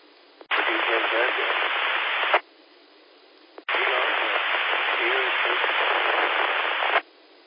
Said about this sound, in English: To check in, you're really down in the white noise. Was anybody able to recognize that station and could they do a relay, call W4DJW? If you move around, try to bump up your power, we'd really like to get you checked in.